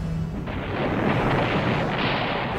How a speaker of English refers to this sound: The guns began at 9 p.m. with a shattering roar.